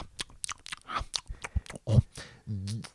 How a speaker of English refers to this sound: Oh, and he's eating something. I think he's eating every single hot dog we saw.